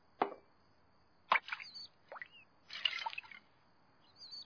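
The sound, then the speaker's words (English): A toy bird dips its beak into water, making a few distinct wet plops and drips spaced about a second apart, with small squeaky chirps in between, fairly quiet. “It's drinking the water!”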